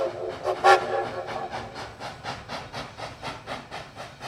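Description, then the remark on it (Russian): A passenger train rolls along the rails with a steady, rhythmic clatter of wheels over track joints, a brief whistle-like tone rising early on, continuous, with no voices. “Очень кстати выяснилось, что вечером оба уезжают в Москву, причем одним и тем же поездом.”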